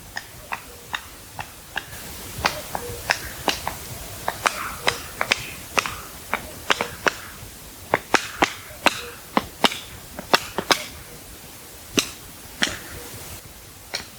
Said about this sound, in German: Und dann haben wir dieses typische Flügelknallen. Viele sagen, das ist ein Klatschen.